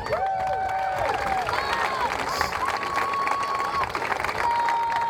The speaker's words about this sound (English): We have quite a few special guests with us here today to help celebrate this event. First of all, a big round of applause for the Ohio State University Spring Athletic Band.